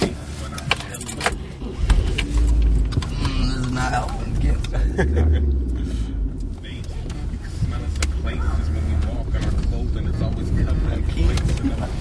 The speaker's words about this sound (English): I think we made the right move right now because that car is now leaving.